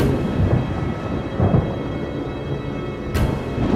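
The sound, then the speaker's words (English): Deep, heavy thunder rumbles continuously as a storm approaches a rock face, swelling in low booming surges with a sharper crack near the end. No voices are present. “The storm's coming!”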